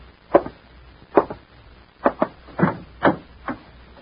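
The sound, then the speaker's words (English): Knocking at a door: seven firm, hollow raps spaced unevenly over a few seconds, two of them in a quick pair, with no voices in between. “Somebody at the door.”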